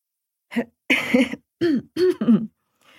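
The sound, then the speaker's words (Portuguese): A voice gives a quick run of five short coughs and throat-clearing bursts. They carry a voiced, stifled, laugh-like edge, as though a chuckle is being covered with a cough. “tossiu para disfarçar uma risada.”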